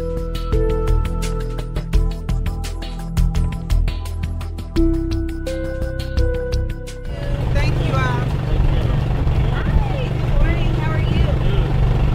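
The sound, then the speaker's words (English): After a brief stretch of music, a mobile market truck's steady engine hum fills the rest, while community members picking up fresh produce and meals chatter and call out over the drone. “The hum of the mobile market truck could not quiet the excitement and gratitude of community members as they picked up fresh produce and meals provided by local restaurants.”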